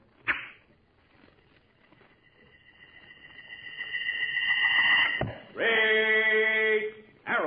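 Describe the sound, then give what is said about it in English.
An arrow set against a rawhide string is loosed from a strong bow with a quick snap, then a whistling whoosh swells louder as it flies and ends in a sharp thunk, followed by a loud, sustained ringing tone; the opening of the Nabisco Shredded Wheat radio adventure Straight Arrow. “A gleaming arrow set against a rawhide string. A strong bow bent almost to the breaking point. And then...”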